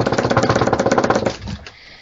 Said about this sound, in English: And we have a big announcement regarding... I should get a drum roll sound effect.